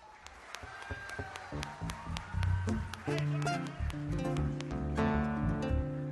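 Scattered applause with sharp, irregular claps, mixed with sustained low instrument tones and a faint high whistle, building slightly louder toward the end.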